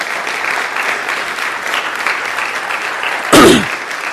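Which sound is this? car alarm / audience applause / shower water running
audience applause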